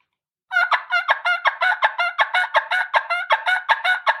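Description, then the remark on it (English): An imitated turkey hen call, practicing the transitions of yelps: after a brief silence, a steady run of about sixteen quick, raspy yelping notes at a mid-high pitch, evenly paced and fairly loud, with no talking. “And you hear hens do it all the time”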